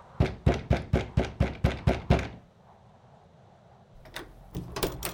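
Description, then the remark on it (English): A quick, steady run of about nine loud knocks on a neighbour's front door at midnight on New Year, by a tall, dark man as first-footer, then a short quiet pause before a few softer, scattered knocks follow. No voices. “Oh, a tall, dark man is at our door.”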